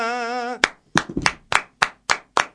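Applause from the stands: a held, wavering tone gives way to seven sharp claps in a steady, evenly spaced rhythm, each one crisp and bright, with nobody talking.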